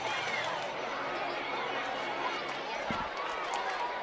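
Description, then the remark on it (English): Steady crowd chatter at Atrium Health Ballpark during a baseball game on Education Day: a dense, continuous murmur of many overlapping voices at an even level throughout, with a brief low thump near the end. “Still a great crowd on hand.”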